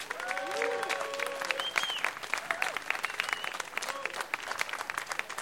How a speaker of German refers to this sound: Nogmaals een groot applaus.